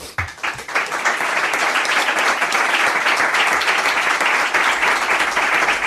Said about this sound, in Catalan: I una ovació llarga, d'una bona estona, com poques vegades han pogut escoltar la sala de premsa Milquereda.